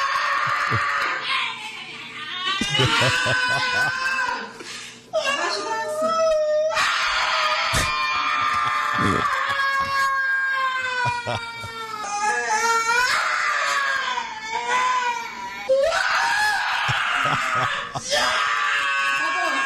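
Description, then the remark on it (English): A big grown man wails and sobs loudly and continuously, his voice breaking into high, strained cries and screams with short gasping pauses, unbroken for the whole stretch, in an edited clip played on WBAB Long Island radio. “Why is this guy crying? Listen to this guy cry.”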